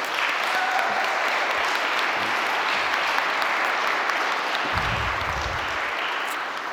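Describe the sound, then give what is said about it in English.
Steady, full applause from a large audience for the event organizers and committee chairs, many hands clapping at once in a dense continuous wash that holds for several seconds, with a brief low rumble near the end. “A round of applause for them.”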